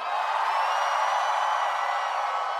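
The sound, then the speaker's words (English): A concert crowd, called on to scream if from out of town, screams in one continuous, loud, high-pitched roar that holds steady throughout without any pauses or breaks. “If you're from out of town, let me hear you scream.”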